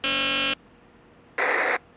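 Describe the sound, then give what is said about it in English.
Two harsh electric door-buzzer blasts from someone at the main door, the first about half a second long, then a pause before a shorter second buzz; loud, raspy and steady-toned with no talking. “Someone's at the main door.”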